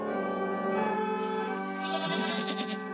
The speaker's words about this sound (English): Yep, those are goats singing along to O Come All Ye Faithful.